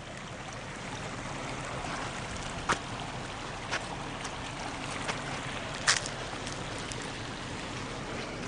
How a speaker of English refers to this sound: There's a pond in here and the creek coming down pretty strong.